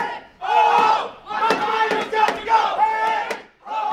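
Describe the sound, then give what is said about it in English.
A group chants slogans in unison after speeches, loud rhythmic bursts of many voices rising and falling with brief pauses between phrases, punctuated by a few sharp clicks or claps. “After the speakers, the group chanted slogans and then marched next door to where the Board of Trustees was meeting.”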